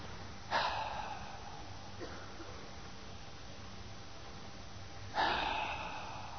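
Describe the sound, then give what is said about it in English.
During a guided relaxation exercise with eyes closed, a person makes two deep, breathy, voiced exhales a few seconds apart, each a rushing burst of air that fades away, with a fainter breath between them over a quiet background hum. “Make a sound as you exhale.”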